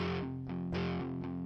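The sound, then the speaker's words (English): A heavily distorted electric guitar plays a few sustained, gritty chords, changing roughly every half second, loud, with no voices. “That's even the right distortion sound.”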